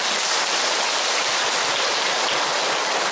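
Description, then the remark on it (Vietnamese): A crowd of Buddhist followers at a dharma talk claps steadily, the dense, even patter of many hands holding at a constant loudness for a few seconds with no voices over it. “Có rồi, cho một tràng pháo tay.”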